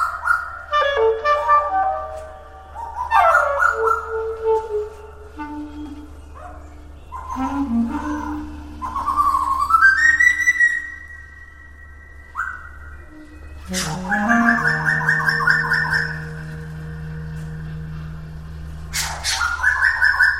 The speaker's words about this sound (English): It turns out they have one of the most complex and carefully structured bird songs that's been studied. And they just have their own aesthetic sense. They like noisy sounds, strange whistles, and it's all a real detailed structure.